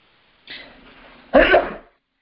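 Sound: sneeze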